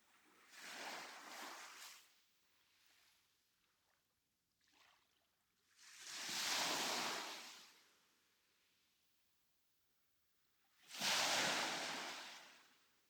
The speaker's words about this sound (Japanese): 小さな波がザーザーザーザー、一定のように見えるけど微妙に違うんだよね。ほら、さっきまではここまで来てたのに、今度は手前で止まっちゃった。